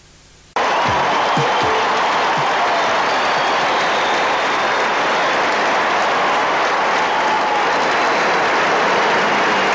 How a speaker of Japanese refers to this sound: このスイスのアンデルセンに声援が行われております。